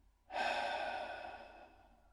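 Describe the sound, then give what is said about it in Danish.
A breathy double exhale through the mouth during a breathing exercise begins abruptly and carries on as a steady airy rush for nearly two seconds before fading out, with no talking. “Og dobbelt udånding gennem munden.”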